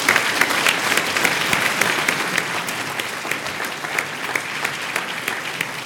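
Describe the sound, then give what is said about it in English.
Sustained applause from an audience at a science demonstration, welcoming a young volunteer from the front row. A dense, steady patter of many hands clapping holds at even loudness for several seconds, with no voices rising above it. “Round of applause.”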